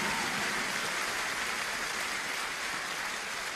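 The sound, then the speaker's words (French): The choir Perpetuum Jezreel creates a steady, dense patter of rain using only hands and feet, a continuous hiss of rapid taps and rubs that sounds convincingly like rainfall, even throughout. “Eh ben non, figurez-vous, il pleut pas. C'est la chorale Perpetuum Jezreel qui fait ça. Rien qu'avec les mains et les pieds.”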